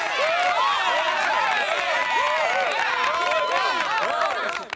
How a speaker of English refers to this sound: I felt like that was a little bit extra applause.